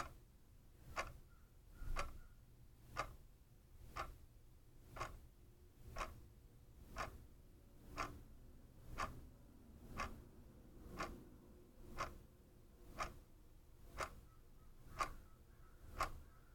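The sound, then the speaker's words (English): A clock ticks steadily, one sharp click roughly every second for the whole stretch, clear against a quiet low background hum, with no voices. “Think of the billions of years of improbable evolution from amino acids in primordial soup to your perfectly designed ears to bring you all the sounds of the world, including this measure of every second.”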